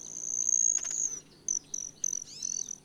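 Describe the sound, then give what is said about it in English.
A thin, high-pitched buzzing whine holds steady for about a second, then breaks into several short bursts: the tail feathers of a broad-tailed hummingbird buzzing as it dives past a female, heard clearly with no voices. “Their tail feathers make a buzzing noise, and the iridescent feathers on their throats appear to change from bright magenta to jet black as they fly past.”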